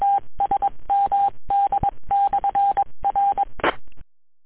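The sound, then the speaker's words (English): A rapid series of touch-tone DTMF beeps sent over an amateur radio channel to reset the EchoLink system and linked repeaters, the short tones grouped in bursts with brief gaps and a burst of static near the end, then silence. “Please stand by all for repeaters reset.”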